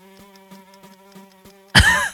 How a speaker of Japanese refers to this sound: 聞こえますかね、このブーって、う ん、ブーンってさっきからハエの飛んでる音がしてるんで、皆さんこれヘッドホンで聞いてる方はちょっとなんか不快な思いをされてるかもしれませんが、でもここに ハエの一生があります